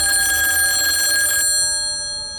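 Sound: telephone bell ringing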